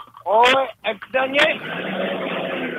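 A propane-powered car horn honks in three loud, brassy blasts, the first longest with a wavering pitch, then fades into a steady hissing rumble.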